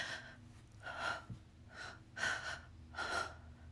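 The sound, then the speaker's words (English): Heavy breathing with a series of four or five sharp, airy gasps in an uneven rhythm, each a breathy rush of air, with no talking. “You can already hear in my breathing that you're getting me close to the edge.”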